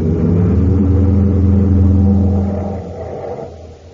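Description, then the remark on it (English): A car engine revs loudly in a scene from the radio show Space Patrol, a steady low rumble with strong harmonic bands, holding high for about two and a half seconds before easing off and fading lower. “Now, Blake, jump out of the car.”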